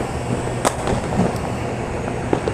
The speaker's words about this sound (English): I'm currently looking at the views right now of the fireworks that's happening currently in where I live. And this is it. While I'm recording this, it's nearing New Year's. And you can hear the fireworks splashing around me.